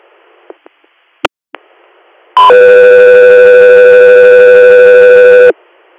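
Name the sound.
dispatch alert tones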